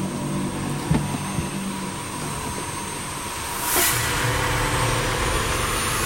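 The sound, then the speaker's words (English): A plane's engines drone steadily as it taxis, a continuous low rumble with a high whine on top that swells slightly partway through. No one speaks. “They taxi away.”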